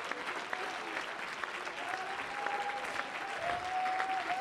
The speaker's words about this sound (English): Come on, if you believe that, clap your hands, lift your voice.